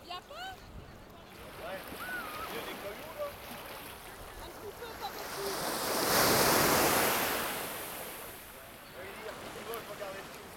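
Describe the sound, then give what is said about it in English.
Salt-water sea waves wash around wading feet, a steady hiss of surf that swells into a louder rushing surge midway before easing back, with faint voices murmuring underneath from many people swimming and paddling in the sea. “My ankles have swollen up a bit with the heat in my legs, so it's quite nice with salt water. It's nice on them, nice and cool.”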